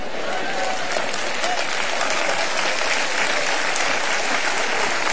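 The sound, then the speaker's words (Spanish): A crowd applauds steadily, a dense, even wash of many hands clapping that holds at a constant loud level for the full five seconds with no voices standing out. “No me convencieron con ese aplauso, hombre.”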